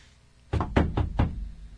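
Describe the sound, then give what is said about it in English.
Four firm knocks on a door in a quick, even rhythm, fairly loud, with no one speaking. “You want me to knock? I got this.”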